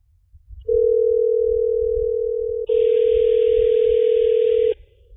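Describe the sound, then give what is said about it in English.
A steady electronic ringing tone heard through a phone line, lasting about four seconds with a brief hitch midway and faint line hiss joining in the second half. No one picks up or speaks. “Answer your damn phone. Who is it? It's Ryan. He's not going to answer.”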